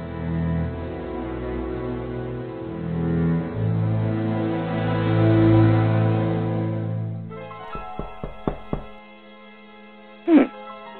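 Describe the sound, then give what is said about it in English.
A sustained musical drone fades out, then a quick series of about five sharp knocks sounds on an apartment door, followed a moment later by a single louder thud. “At her apartment, Alexandra is home alone when she hears a knock on the door.”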